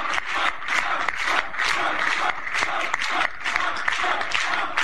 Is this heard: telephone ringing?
no